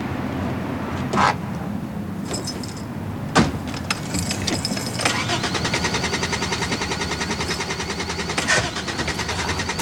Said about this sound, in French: Vous avez noyé le moteur.